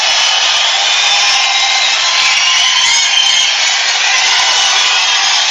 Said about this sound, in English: Here he is, live, just a little while ago. Here he comes. It's a big crowd. Listen to the size of it, folks.